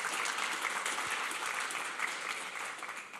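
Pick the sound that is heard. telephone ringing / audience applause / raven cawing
audience applause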